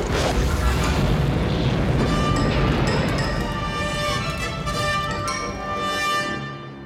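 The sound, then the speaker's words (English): A single loud explosion at Captain Solo's location, after energy weapons fire, bursts out with a heavy roaring blast, then rumbles and crackles for several seconds while metallic ringing tones linger and slowly fade. “Sensors report energy weapons fired. Captain Solo's location, General, followed by an explosion.”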